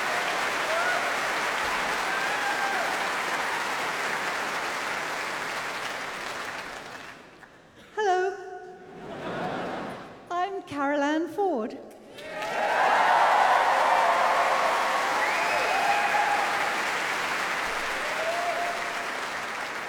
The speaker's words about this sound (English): Now, applause for another early companion.